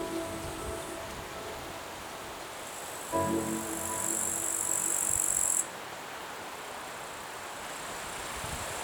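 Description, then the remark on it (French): A soft, steady rustle of wind through leaves under a constant high, buzzing chirr of insects; the insect sound swells louder and brighter for a couple of seconds midway, then drops back. “Il caresse en douceur les feuillages des arbres et le crépitement des insectes.”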